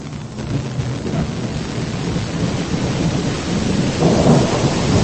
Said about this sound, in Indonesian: Hujan mulai mereda. Sisa hanya rintik-rintik kecil.